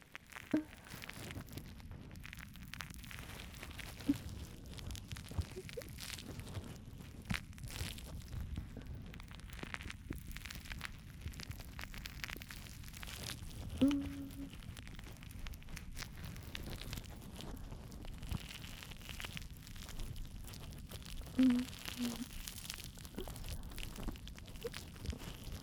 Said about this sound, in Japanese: マスター様のお耳をこの泡で洗わせていただきます。もこもこの泡でお耳全体を包み込むようにして。